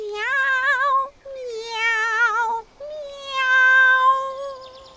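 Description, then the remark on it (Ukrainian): Three long, drawn-out meows in a row, each wavering and sustained, fairly loud; likely a voice imitating the cat in the tale of the animals heading to Bremen to be street musicians. “Як канарка, коли місяць на небі», – сказала кішка та й занявкала.”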